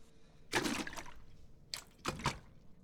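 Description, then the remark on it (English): Ocean salt water mixed with some fresh water splashes and pours for drinking in two short bursts, the first longer and fuller, the second a brief trickle and splash, with quiet pauses between and no talking. “I have some nice salt water for you to drink.”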